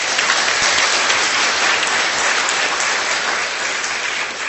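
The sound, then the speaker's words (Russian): Sustained applause from a large audience of colleagues, a dense, steady wash of clapping at fairly loud level that holds evenly throughout without any talking. “Аплодисменты, коллеги.”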